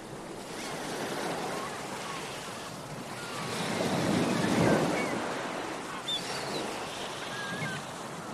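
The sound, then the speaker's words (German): Ocean surf rushes steadily, one wave building to a louder crash around the middle before easing back into a continuous wash; faint high chirps flicker briefly near the end. “Mit Traumreise, Autosuggestion, Meeresrauschen und Entspannungsmusik.”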